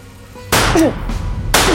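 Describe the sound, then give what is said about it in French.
Two sharp, loud shots fired into the air from a Smith & Wesson 9 mm pistol about a second apart, each a sudden cracking blast that trails off into a brief rumbling decay, with no voices. “Elle lève son Smith & Wesson 9 mm, presse la détente du pistolet et tire 2 coups de feu en l'air pour s'assurer que l'instrument sait encore jouer de sa musique.”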